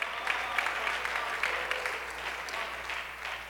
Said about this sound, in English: Clap your hands if you believe it this morning. Hallelujah.